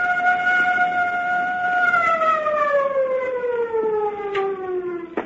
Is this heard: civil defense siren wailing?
yes